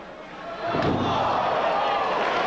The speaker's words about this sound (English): And Sabu dropped face first to the canvas.